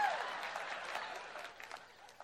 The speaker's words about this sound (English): Yeah, God bless you guys. That was your moment to clap.